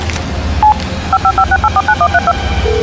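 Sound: telephone keypad dialing tones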